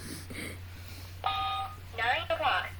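A clock's electronic alarm goes off about two minutes early, before the top of the hour: a steady synthetic tone holds for about half a second, then gives way to a warbling, rising-and-falling chime, loud over a faint low hum.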